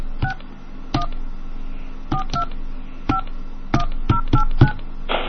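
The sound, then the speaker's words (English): Phone keypad tones beep one after another, about ten short dual-tone presses at an uneven pace, clear as the digits of a Navy phone card number are punched in, with a soft hiss underneath. “Please enter your card number now.”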